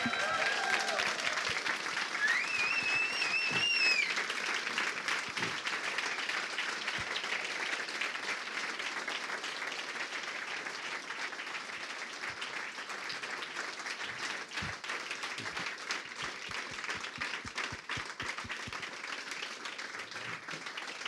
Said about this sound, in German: Trotzdem bitte jetzt nochmal einen besonderen Applaus für das Werk für Reinhard Kleist.